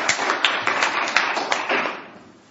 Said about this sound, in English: Would you give Bob a round of applause? Roberto! Come on!